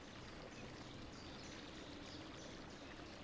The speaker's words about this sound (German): Links von dir plätschert träge ein kleiner Fluss. Und rechts von dir auch. 2 kleine Flüsse, die hier, genau hier, wo du liegst, zusammentreffen.